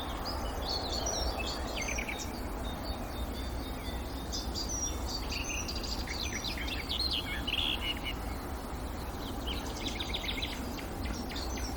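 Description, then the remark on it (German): A songbird sings a rapid, busy stream of varied high chirps and trills without pause, fairly prominent over a steady outdoor hiss, with no one talking. “Dann ist es sehr hektisch vorgetragen und laut.”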